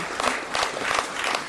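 A crowd applauds with steady, dense clapping, a broad continuous patter of many hands at moderate loudness with no voices over it.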